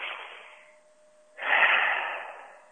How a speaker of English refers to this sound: Here's what I mean by breathing. Take a nice deep breath, okay? So let's do it right now.